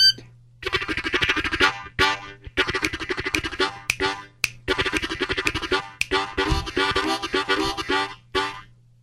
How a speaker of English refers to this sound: But I swear to God, these are first act discovery, learn and play harmonicas that I got at the toy store. And you just made it sound like that.